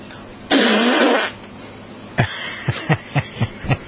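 A loud, drawn-out burp, followed after a short pause by a quick series of about six short, croaky burps in a steady rhythm.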